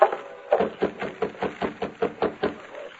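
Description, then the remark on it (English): Rapid, steady knocking on the door of the Dawson Ranch at night by riders who have just dismounted, about ten firm raps in quick succession, fairly loud with no voices. “They reined up, dismounted, and rapped on the door.”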